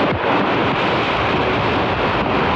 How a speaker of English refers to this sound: The sound of wind, hail, and rain that pummeled the Dallas-Fort Worth area last night. The storm killed at least 8 people, 11 others are feared missing, more than 100 were injured, many of them at an outdoor festival along the Trinity River.